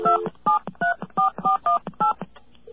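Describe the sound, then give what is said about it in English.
A quick run of telephone keypad tones, about ten short dual-pitched beeps pressed in a steady rhythm, as someone dials a number to set up a three-way call during a radio show, with no talking over them. “Because I got a dial on the other line. I got a connector here. Okay, so you're going to three-way us to your friend.”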